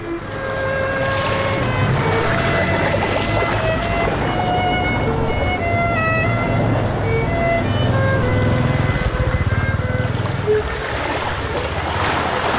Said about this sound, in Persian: اینجا شهر ساحلی ونکوور، بندر ونکوور.